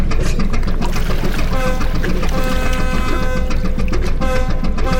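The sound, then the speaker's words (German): A boat engine runs steadily and loudly over rushing, splashing water, a continuous drone with a whining tonal hum layered on top throughout. “Hier spricht die Wasserschutzpolizei. Stoppen Sie die Maschine, Skorpion, und drehen Sie bei.”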